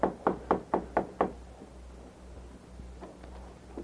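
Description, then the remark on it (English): Six quick, evenly spaced knocks on the wooden door of a cabin ring out firmly, followed by a few faint, softer taps. “knocked on the door.”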